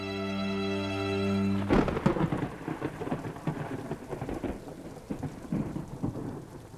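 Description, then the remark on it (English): A sustained low droning tone gives way to a sudden loud thunderclap, followed by rumbling, rolling thunder over steady heavy rain, full, with no voices. “Edom was born on a night when thunder shook the ground and lightning brought fire from the heavens to the earth.”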